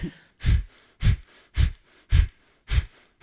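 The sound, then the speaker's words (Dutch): A series of six sharp, forceful exhalations through the nose, made sitting upright while pulling in the navel in a breathing exercise, evenly spaced at a brisk steady rhythm, each a short breathy puff with quiet gaps between and no talking. “Je gaat rechtop zitten, adem dan krachtig uit, waarbij je navel intrekt.”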